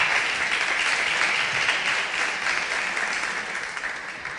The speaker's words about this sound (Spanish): Un fuerte aplauso para Elisa.